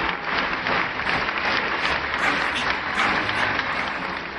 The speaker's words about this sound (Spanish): Oh, me gusta la musiquita y los aplausos.